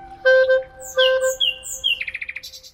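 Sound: nightingale singing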